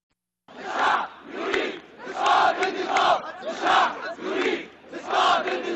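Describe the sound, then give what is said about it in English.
A large protest crowd in Cairo's Tahrir Square, Egypt, chants in unison outdoors, loud rhythmic bursts of many voices repeating "The people want to bring down the regime" roughly every second and a half, echoing across the open public square. “About 1 year ago, a crowd in Cairo's Tahrir Square chanted, "The people want to bring down the regime."”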